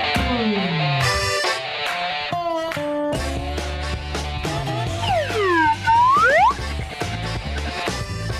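A slide whistle glides down, then swoops through several rising and falling arcs over a busy, loud musical backing of stacked tones and steady bass. No one speaks.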